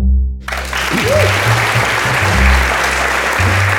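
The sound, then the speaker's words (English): A live audience bursts into steady applause for David Ivanovich, dense and loud clapping that holds for several seconds, with a low hum and a brief voice-like murmur underneath. “I will have a riot on my hands if only David Ivanovich gets a round of applause.”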